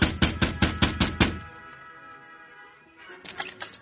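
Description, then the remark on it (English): The Lone Ranger knocks on the wooden door of a house: a quick, even run of about seven firm, loud knocks, followed by a brief lull and a few fainter raps near the end. “Outside the house, the Lone Ranger, prepared for trouble, held a gun in his right hand as he knocked on the door with his left.”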